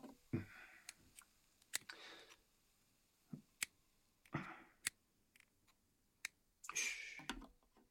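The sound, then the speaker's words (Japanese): Crisp snips of scissors cutting through freshly grilled squid, a dozen or so sharp clicks at an irregular pace, mixed with a few brief soft rustling bursts and no talking. “で、イカはハサミで切って。”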